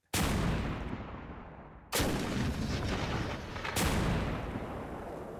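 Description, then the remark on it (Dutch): Three loud blasts from a cannon loaded with a bag of powder go off about two seconds apart, each a sharp boom followed by a heavy, rumbling roar that barely fades before the next shot. No one speaks. “Deze gaat in de kanon.”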